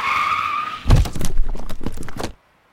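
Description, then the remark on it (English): A car's tires screech in a sharp, steady skid while driving on a road, then a loud heavy thud as it hits a deer and a burst of crunching, rattling impact noise follow before cutting to silence. “Well, it might be free, but you might need a paint job on your car's front bumper because the meal is actually a deer that you hit while driving on the road earlier in the day.”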